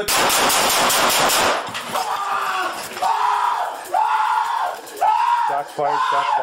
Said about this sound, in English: Shots fired.